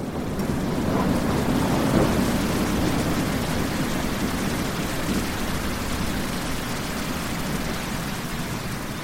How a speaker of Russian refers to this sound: Хлынул ливень.